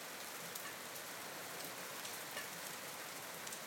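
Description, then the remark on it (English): Steady rain from a storm falls outside in a constant, hissing wash, with light pattering droplets and no voices or thunder, holding an even, moderate level throughout. “There's a good old storm out there.”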